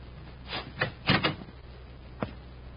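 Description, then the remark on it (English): A door to a room in a house is opened with a few sharp knocks and clicks of the latch and handle, a cluster in the middle, then one last click after a pause. Fairly quiet, no voices. “I'll open the door.”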